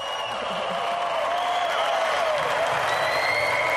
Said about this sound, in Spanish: Están aplaudiendo.